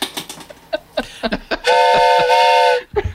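Close, loud toy train whistle blown once in a steady, chord-like toot lasting about a second, preceded by a few scattered clicks and rattles of handling.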